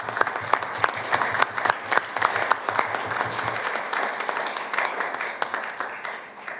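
An audience breaks into sustained applause congratulating three fire companies on their awards, many hands clapping in a dense, crackling wash that stays steady for several seconds before beginning to thin out at the end.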